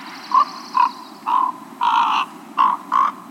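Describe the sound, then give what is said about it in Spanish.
A crow gives a soft, warbling comfort call in six short, throaty bursts at an uneven pace, some brief and some drawn out, with no one talking; made during courtship as a pair sits side by side gently preening each other's feathers. “Durante el cortejo, la pareja suele sentarse lado a lado, acicalándose suavemente las plumas el uno al otro. Y durante este ritual, pueden hacer este gorjeo.”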